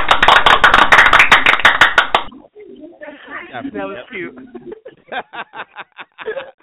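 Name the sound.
hands clapping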